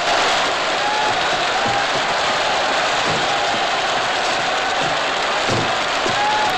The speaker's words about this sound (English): Meanwhile, the curtain descends as Rossi conducts the closing bars of the opera. As Harry, Latimer, and the whole audience burst into applause, tears of deep joy well up in Petrie's eye.